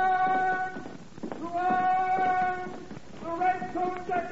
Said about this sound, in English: You hear? A horse. Listen. A galloping horse.